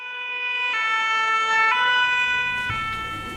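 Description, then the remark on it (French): An ambulance siren sounds its two-tone call, alternating between a high and a low pitch about once a second, loud, with some traffic rumble creeping in near the end. “Non, reste avec moi, j'appelle une ambulance.”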